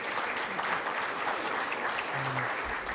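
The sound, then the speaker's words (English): Steady audience applause for the afternoon session's presenters, a dense wash of many hands clapping at an even level throughout, with a faint low hum briefly appearing near the end. “So we'd ask you to give a round of applause for our presenters this afternoon.”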